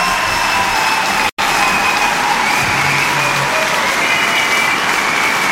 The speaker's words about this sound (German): Den Applaus haben Sie gerade verdient.